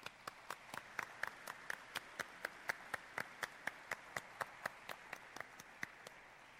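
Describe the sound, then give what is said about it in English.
Steady, evenly spaced handclaps at about four per second, crisp and moderately quiet, continuing for several seconds with no voices: an audience's round of applause for undergraduate finalists. “So, our undergraduate finalists, should we give them a round of applause? Yes, I think they need a round of applause.”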